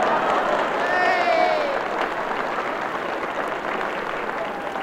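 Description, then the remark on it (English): An audience applauds in a steady, dense wash of clapping that holds for about five seconds, with a brief high whistle early on and crowd murmur blended in. “And a blue bottle making sign to audience for applause.”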